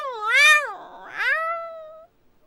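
A cat gives one drawn-out, two-part meow, rising then falling in pitch, with a raspier middle, loud, lasting about two seconds with nothing else around it.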